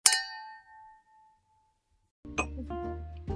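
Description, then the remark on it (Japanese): Glasses of water with melissa herb in it clink together once in a toast, a bright ringing tone that fades slowly over about a second and a half, followed after a pause by a duller clattering knock. “そうなんです、メリッサっていう女性ホルモンのバランスを助けてくれるハーブをね入れたお水を用意してるので、それで乾杯したいと思います。”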